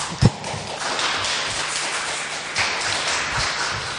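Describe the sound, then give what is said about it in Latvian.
A group applauds steadily in approval of a working group's report, dense overlapping clapping filling the whole stretch at an even loudness, with a sharp thump near the start and a few louder claps standing out. “Ja darba grupa akceptē šo ziņojumu, varbūt mēs varētu palūgt tad piekrišanas aplausus.”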